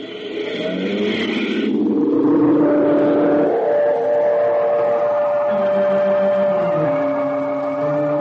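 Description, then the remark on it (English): A car engine runs loud, its droning hum shifting in pitch as if it starts up and pulls away, steady for several seconds with no voices, as Tex and Mr. Miles climb into their car at the Milestone Farm. “At the Milestone Farm, Tex and Mr. Miles climb in their car.”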